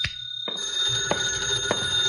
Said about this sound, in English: My phone was ringing when I unlocked the door.